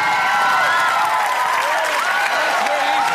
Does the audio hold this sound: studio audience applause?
yes